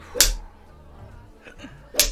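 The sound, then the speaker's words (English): Two sharp, swishing cane strokes land about two seconds apart, each a loud crack with a bright hiss, and a faint softer sound falls between them. “Let's see how he fares with the cane.”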